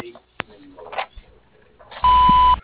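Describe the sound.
A single loud, steady electronic beep lasts about half a second, the kind of tone that prompts a voicemail message. Faint, muffled speech and small clicks come before it.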